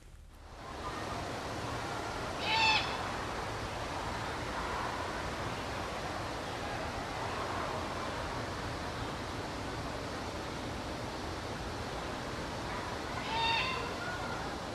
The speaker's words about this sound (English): That is a begging cheep, C-H-E-E-P, of a young great horned owl. And that is the owlet's way of saying, Mom, Dad, I'm over here and I'm hungry.